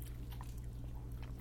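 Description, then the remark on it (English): Crunching of someone chewing a crisp cucumber, with several sharp bites spread irregularly across a steady low hum, no talking. “And that crunchy thing is a cucumber.”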